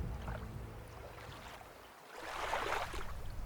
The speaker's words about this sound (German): Sanft beginnt das Boot, von unsichtbarer Hand geführt, langsam abzulegen und über das ruhige Wasser zu gleiten.